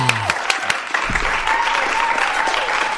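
Sustained applause from a crowd, a dense steady wash of clapping that stays loud throughout, with a faint voice briefly rising above it.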